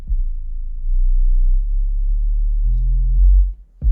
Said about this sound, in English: But it doesn't sound steppy when you're not playing a sine wave through it like this. But it does allow me to find the sweet spots in the rattly parts of the house.